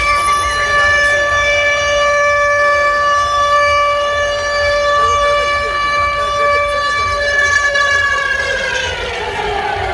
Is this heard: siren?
yes